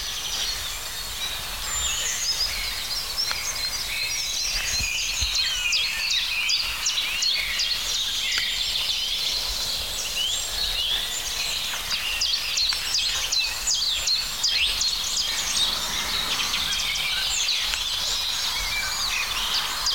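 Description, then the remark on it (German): A Eurasian blackbird sings amid a dense, continuous chorus of chirps and whistled phrases that carries on for the full length without pause; no one speaks. “Da wird die Amsel halt eine kurze Pause gemacht.”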